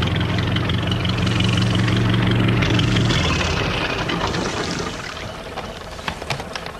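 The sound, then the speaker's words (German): A small boat's engine drones steadily with a low, throbbing hum over lapping water, then throttles down and fades to a quieter idle as it docks at a jetty. “Da legte ein kleines Boot am Steg an.”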